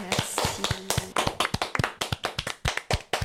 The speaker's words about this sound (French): Bravo, on t'applaudit très fort.